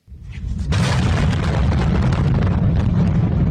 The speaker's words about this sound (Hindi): Social media में upload कुछ दूर से बनाए गए वीडियो में दिखाई दे रहा है कि धमाके के ठीक बाद आग का एक बड़ा सा गोला हवा में तैरा और फिर धुएं के गुबार ने उसे घेर लिया।